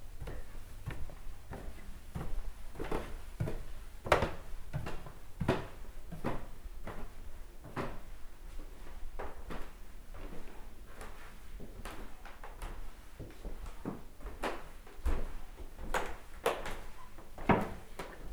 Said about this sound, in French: Mes pas. Chacun de mes mouvements font grincer les parquets, les poutres. Les craquements accompagnent ma déambulation distraite. À chaque planche, à chaque escalier, un son distinct.